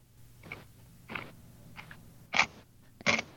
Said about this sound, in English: I had my microphone on mute because I was crunching. Just do it. Just do it. Just crunch. Wasn't ready. Do it. Give us the crunch. You want the crunch? You've wanted to do this. Here's your crunch. I don't know how crunchy it's going to be, but...